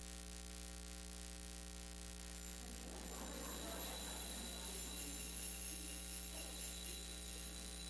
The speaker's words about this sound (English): And then we hear the bells.